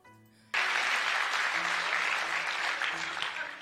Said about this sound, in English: All right, I like what that does to my decibels. It just gives me an ugly line of wave file when they clap like that.